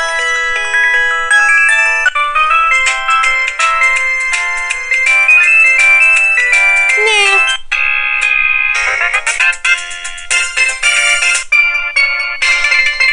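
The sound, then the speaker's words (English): A built-in cell phone ringtone that comes with the phone, previewed in the phone's sound settings, plays continuously, a bright, loud electronic melody of rapid synthesized tones and chirpy note runs, heard alone with no talking. “Now that's a ringer that comes with the phone.”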